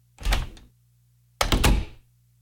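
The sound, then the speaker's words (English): A front door opens and then shuts, two solid thuds about a second apart over a faint steady hum, with no voices. “But at that moment, Jason heard the front door open and close.”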